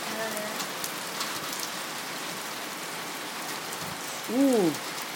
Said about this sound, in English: Oh, is that hailstones or rain? I don't know. Won't go out in that. Oh, my God. Listen to that. The wind's blowing it as well.